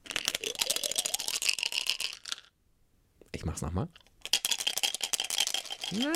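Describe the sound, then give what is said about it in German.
Several dice clatter rapidly inside a plastic shaker cup, shaken so listeners can guess how many dice are inside, in two long, busy bursts of sharp clicks, separated by a short pause where a man speaks briefly. “Und zwar habe ich hier einen Mischbecher aus Plastik, wo man quasi Würfel reinpacken kann.”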